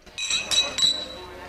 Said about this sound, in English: Tonight is New Year's Eve. Third time this week. Here's to you. They toast.